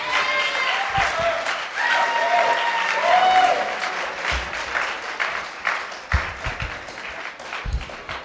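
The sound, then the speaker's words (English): An audience applauds the musicians with dense, steady clapping for about eight seconds, with a few high cheers and whoops rising over it early on before the clapping thins slightly toward the end. “And give a nice round of applause for these wonderful musicians.”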